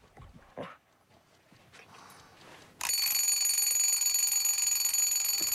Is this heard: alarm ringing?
yes